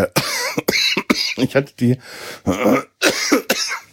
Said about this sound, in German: Entschuldigung, ich brauche einen Schluck. Was für eine scheiß Husterei.